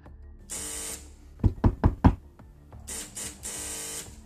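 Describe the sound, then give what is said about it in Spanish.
Police officers at a first-floor apartment door: a harsh electric door buzzer sounds in long insistent bursts, broken by four quick, loud knocks on the door, then the buzzer rings twice more. No voices are heard. “Suben al primero C y empiezan a llamar al timbre de manera insistente.”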